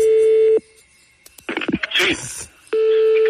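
Telephone line tones of a call placed from another phone: a steady, loud electronic tone sounds for about half a second, gives way to clicks and crackly line noise, then the same steady tone returns. No one speaks.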